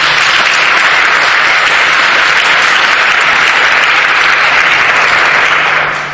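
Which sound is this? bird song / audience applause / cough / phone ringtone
audience applause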